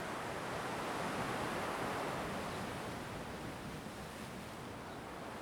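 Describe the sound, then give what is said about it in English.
A steady, dense roar of rough, stormy sea surf breaking on Penoural beach fills the scene, waves churning and crashing continuously with a windy hiss and no clear gaps between breakers. No voices are heard. “Move closer to get a view of the beach and the stormy sea.”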